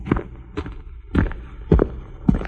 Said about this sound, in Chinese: 小树听见摩斯叔叔的脚步声